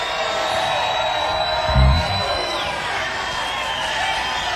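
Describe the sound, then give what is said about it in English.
A concert crowd in the rain cheers and whoops for an encore in a steady, dense roar of voices that holds for several seconds, with a brief low thump near the middle and high shouts scattered throughout. “Y'all make some noise, maybe we can get both Francine and Trudy out.”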